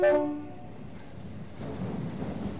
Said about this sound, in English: The train left the station.